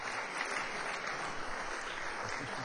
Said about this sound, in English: So please, a round of applause for our sponsors.